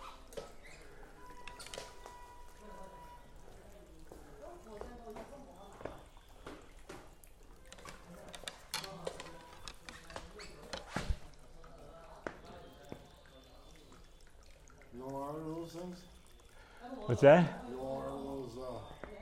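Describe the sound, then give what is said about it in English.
A small indoor fountain with a lit-up ball rolling in it trickles and drips softly and steadily in the background while people chat over it, with a few sharper clinks and a louder voice near the end. “What is that water I hear? Is that like a little fountain? It's a little fountain, yeah.”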